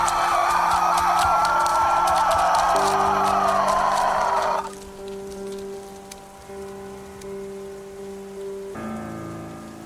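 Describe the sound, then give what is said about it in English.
Steady, heavy rain hisses for several seconds, then drops off to a much lighter patter, with low sustained tones humming underneath throughout. “Even though the rain didn't help, I didn't move.”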